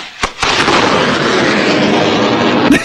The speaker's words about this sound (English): Dude, it looks like at the end of Star Wars when they blow up the Death Star. That's what the explosion in your backyard looks like. Because there's like fireworks coming off of it. Sparks flying, a big cloud of debris.